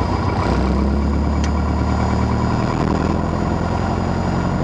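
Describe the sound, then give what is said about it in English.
A light aircraft's piston engine holds a steady, loud run-up at a throttle setting of 1700 RPM with the brakes on, a continuous low droning roar with a constant pitch and no voices over it. “Brakes on. Throttle setting 1700.”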